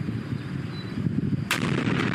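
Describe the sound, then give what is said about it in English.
A deep, rolling rumble builds before a sudden sharp blast cracks through, followed by a sustained roaring boom as a demolition explosion brings down a bridge, with no voices. “What do you do if a bird lands on the bridge right before you press the plunger?”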